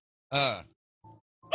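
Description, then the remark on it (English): A dog lets out three voiced bark-like vocalizations: one longer, rising yowl followed by two short, lower woofs after a brief pause, with no talking. “But your ball, you're speaking in your real dog voice.”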